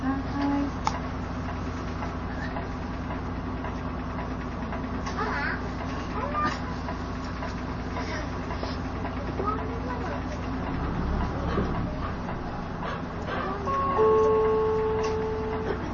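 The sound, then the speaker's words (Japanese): A Toei city bus engine idles steadily inside the cabin, a low continuous rumble with faint mechanical tones, while a recorded Japanese announcement plays over it for the bus bound for Shinjuku Station West Exit. “都営バスをご利用いただきましてありがとうございます。このバスは四段坂下天元寺橋信濃町駅前経由新宿駅西口行きでございます。”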